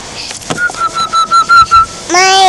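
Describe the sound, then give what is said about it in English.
A child whistles a quick run of short, evenly spaced breathy notes on one pitch, clear, then breaks into a brief high, wavering vocal sound at the end. “You whistling?”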